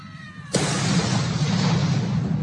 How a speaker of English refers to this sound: A cannon salute on his accession day.